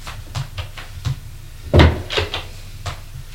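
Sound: door opening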